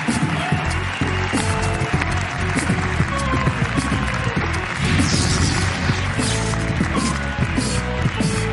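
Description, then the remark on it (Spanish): Steady, loud audience applause for Ricardo Castella and Grison on the show La Resistencia fills the whole stretch, a dense wash of many hands clapping at once with a few faint voices mixed in. “Un aplauso para Ricardo y Grison.”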